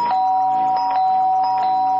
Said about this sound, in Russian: Звоню три раза.